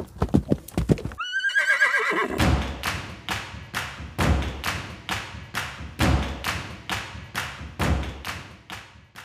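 horse galloping hooves

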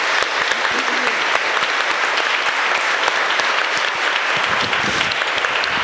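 audience applauding

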